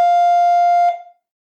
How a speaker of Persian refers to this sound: زنگ در منو از خاطراتم بیرون کشید.